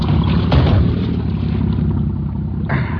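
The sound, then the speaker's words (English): A motorboat engine churns steadily, a low continuous rumble with brief surges as it shifts and works in reverse while the boat swings toward another boat and is turned to port, no voices present. “Hold on here for a moment till I clear the bow line. We're swinging into the other boat. Well, put her in reverse.”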